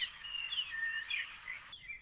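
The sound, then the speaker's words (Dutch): Several birds sing and chirp outdoors at a care facility, heard from a swing, a steady overlapping chorus of high, thin whistles and trills, with a road in the background and no one talking. “Maar ik hoor vooral vogels om me heen.”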